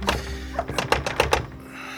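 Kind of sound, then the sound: impact, knocking on a door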